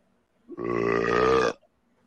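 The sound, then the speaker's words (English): A single loud, real fart, a sustained buzzy, tonal blast lasting about a second, standing alone with no talking around it. “I got a fart for him. It's a real one.”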